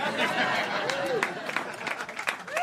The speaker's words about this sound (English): Thank you. You're right to clap. You should, after that long, incoherent, rambling session, do the same thing you do after someone plays a magnificent cello solo.